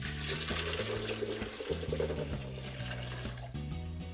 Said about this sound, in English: So into the blender, we're gonna place in 1 cup of our soaked almonds. And for every 1 cup, we're gonna add 4 cups of water.